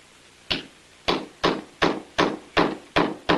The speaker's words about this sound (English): Kneeling, he holds a chisel against the brick wall and bangs into it with a sledgehammer.